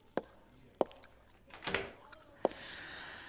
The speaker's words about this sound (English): I'm just gonna lock the door so no one disturbs us.